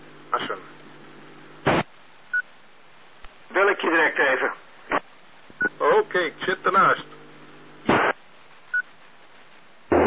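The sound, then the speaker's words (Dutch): Short electronic keypad tones beep now and then as a number is dialed. Bursts of talking and brief crackly radio-like blips come between them. “Bel ik je direct even.”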